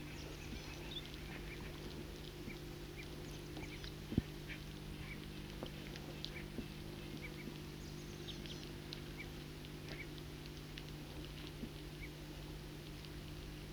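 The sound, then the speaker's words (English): A foraging flock of several birds in a tree calls softly and often, with scattered short squabbling notes as they fight among themselves, over a steady low hum, one sharper call standing out near the start. “circling from underneath a tree in which there's a foraging flock of several birds. And they are calling softly and often fighting among themselves.”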